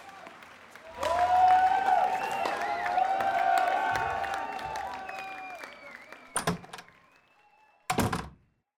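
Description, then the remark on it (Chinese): A large crowd of spectators at a nationally watched competition roars and chatters loudly for several seconds, with high calls and whistles rising above the din, then fades, followed by two sharp, heavy thumps. “果然是全国瞩目的比赛，非常多的观众”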